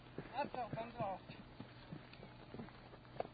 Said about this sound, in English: Oh, the horse is coming directly at us here. At a good clip.